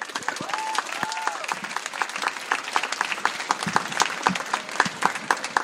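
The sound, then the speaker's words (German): Sustained audience applause, a dense patter of many hands clapping steadily at a fairly loud level for several seconds, with a few brief whistles early on, greeting slam poet Katja Hofmann from Halle. “Dementsprechend einen großen Applaus für Katja Hofmann aus Halle.”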